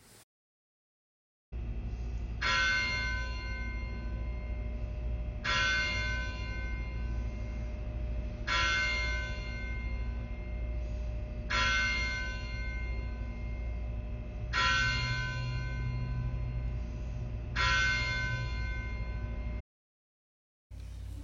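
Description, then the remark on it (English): A single church bell of Christ Church tolls slowly and steadily at 6 p.m. before an evening Compline service, six resonant strikes spaced about three seconds apart, each ringing out and fading over a low, constant background rumble. “This service began at 6 o'clock p.m. after the tolling of the church bell.”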